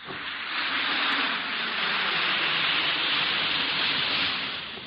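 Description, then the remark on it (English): A steady, dense fizzing hiss of an Alka-Seltzer effervescent tablet dissolving in water, fairly loud, continuing unbroken for about five seconds with no voices. “Listen to it fizz.”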